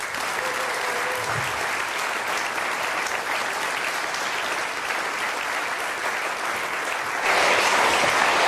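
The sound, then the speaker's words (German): Sustained audience applause from a sizable crowd in Niederhöchstadt welcoming two speakers at an event, dense and steady clapping throughout that swells louder near the end, with no talking over it. “Begrüßt bitte mit mir mit einem herzlichen Niederhöchstadter Applaus sowohl Vincent Lohmann als auch Thomas Weißenborn”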